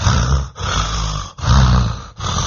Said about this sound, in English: There was a loud noise, the breathing of Agasura.